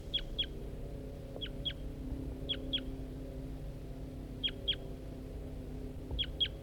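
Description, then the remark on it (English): A wild male bird sings in response to playbacks of the songs of Bird 4-3, short, high two-note phrases of sharp downward whistles, repeated at irregular intervals over a steady low rumble of background noise. “That's the wild male responding to playbacks of Bird 4-3.”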